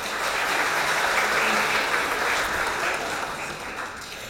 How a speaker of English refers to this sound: Shall we give her a round of applause?